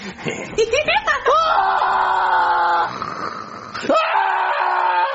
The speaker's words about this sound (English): Screaming like that. That was a dream too. You must have had a bad nightmare.